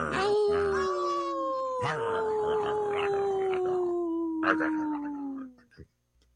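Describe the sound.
A person imitates a wolf howl, one long sustained tone that slowly slides downward over about five seconds, loud, with faint breathy bursts, then trails off.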